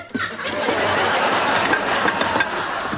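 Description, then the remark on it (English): A clothes dryer runs erratically, a loud, steady mechanical roar broken by irregular thumps and brief surges throughout the three seconds. “Dad, the dryer's going crazy.”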